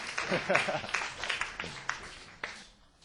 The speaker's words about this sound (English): I just want to thank you for all the hard work. So let's give them another round of applause for their appreciating them.